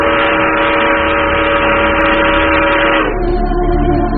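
A distant train whistle blows in one long, steady, chord-like blast, then drops slightly in pitch near the end and continues over a low rumble. No voices are heard.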